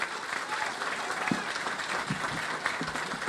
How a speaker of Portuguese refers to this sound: Eu queria pedir uma salva de palmas ao ministro Rui Costa, ao ministro Paulo Pimenta.